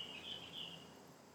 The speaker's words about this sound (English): Wow, do you hear that bird?